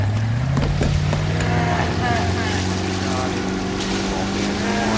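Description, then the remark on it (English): A motorboat engine roars loud, its droning pitch climbing steadily as it throttles up and accelerates to pull a water skier up, with rushing water and wind noise underneath throughout. “Just lean back and let the boat pull you up.”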